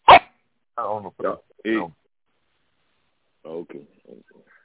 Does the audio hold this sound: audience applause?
no